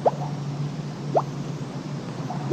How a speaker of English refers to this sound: Natural fizzy mineral water bubbling out of the ground. The Romans discovered it, and being Romans, bathed in it. In the Middle Ages, people called it bouillance because the water looked like it was boiling.